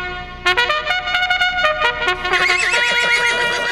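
A horse neighs loudly, a long shrill whinny that starts abruptly, wavers up and down, and trails off into a fluttering, quavering finish.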